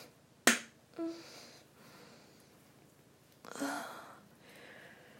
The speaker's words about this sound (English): Masturbating for strangers. Making you listen. How I sound like when I come. And slapping a little clit.